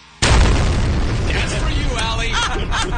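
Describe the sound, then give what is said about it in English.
An explosion sound effect, played by hitting a button, bursts in abruptly and rumbles on with heavy low-end crackle, filling the whole clip with a dense, sustained roar. “You see, you can have an explosion.”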